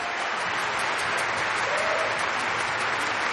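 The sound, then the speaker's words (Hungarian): Loud, sustained applause from a large crowd for a 15-year-old cellist's performance in the Eurovision Young Musicians final, on an open-air stage in front of Cologne Cathedral, a dense steady roar of many hands clapping with no break and no voices standing out. “A nézők hatalmas tapssal jutalmazták a produkciót.”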